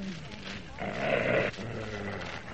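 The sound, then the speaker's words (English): A dog named Ren, asked to speak up, gives one loud, drawn-out, rough bark lasting under a second, with people talking before and after it. “Well, he's certainly a very beautiful dog.”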